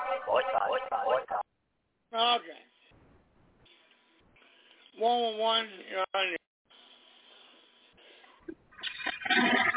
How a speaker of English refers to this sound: We're going to flush your toilet.